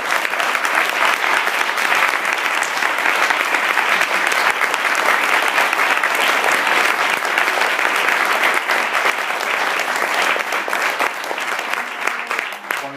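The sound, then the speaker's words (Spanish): A large audience claps steadily and loudly for about thirteen seconds, a dense unbroken wall of applause that thins slightly right at the end. “Entonces, yo os pido un pedazo de aplauso para ella.”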